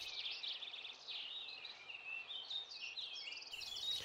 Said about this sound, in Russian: Услыхал медведь прекрасное пение какой-то птицы и говорит: «Братец волк, что это за птица, которая так прекрасно поет?» «Тише, тише, это король всех птиц, перед ним мы все должны преклоняться». А птица была королек.